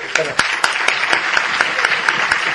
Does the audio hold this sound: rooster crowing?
no